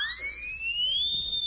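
A loud, shrill siren tone wails steadily from a horn with a siren built into its mouthpiece, blown in a school cafeteria; its high pitch rises slowly and holds, with no voices over it.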